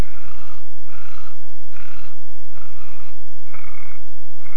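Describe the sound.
A voice imitates snoring made with the throat rather than the nose, raspy, purring strokes that repeat in a steady rhythm about once a second, with no talking.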